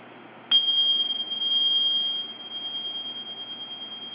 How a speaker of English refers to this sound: I'm going to ring them 3 times. And while I'm doing this, I want you to take some deep breaths with each ring. All right, breath in through your nose and out and a ring. Good. And again, and these are the Tibetan bells. One more.